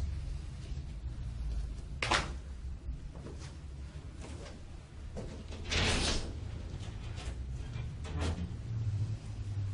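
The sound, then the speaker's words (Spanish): A door slides open a little to let in fresh air, with a few scraping, rattling bursts of movement over a steady low rumble in the background. Nobody speaks. “Abra un poco la puerta para que entre aire fresco.”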